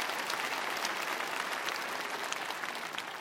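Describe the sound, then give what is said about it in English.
Steady applause from a group, dense overlapping claps forming a continuous crackling wash at an even loudness for a few seconds, with no voices. “Yeah, you were trying to clap. Go ahead.”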